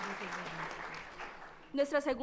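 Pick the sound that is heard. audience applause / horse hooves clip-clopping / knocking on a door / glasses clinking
audience applause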